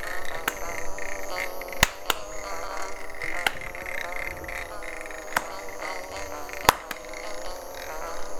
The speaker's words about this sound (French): C'est quoi ce bruit? On dirait une abeille ou un moustique.